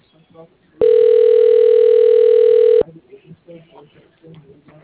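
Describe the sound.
A loud, steady telephone tone of an outgoing call holds for about two seconds, then cuts off abruptly, with faint talking before it and clearer conversation afterward.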